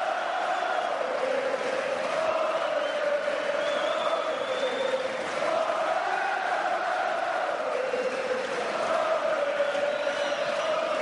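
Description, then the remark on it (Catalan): A large crowd of Castellers de Vilafranca members and supporters in the square and stands cheers and shouts in sustained celebration of their victory, a dense roar of voices with rising whoops and chanting-like swells, loud and continuous throughout with scattered clapping beneath. “Espectacular la celebració, els crits de victòria, els crits de guerra, l'alegria, pungen l'aire, aplaudiments, els membres dels Verds, els castellers de Vilafranca,”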